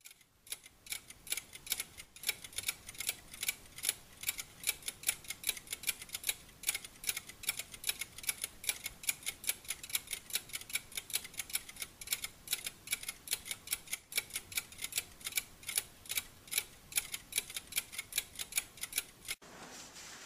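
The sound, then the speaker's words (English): Dense, layered ticking from several clocks at once, a sound effect built for a stage show, fast overlapping clicks forming a steady, busy rhythm throughout. Moderately loud, with no voices. “And let's see if we can build what I call mental clock.”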